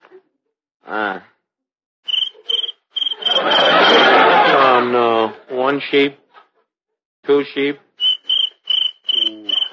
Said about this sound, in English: I'll fix that cricket. Scat! Shoo! Beat it! There. I scared him away.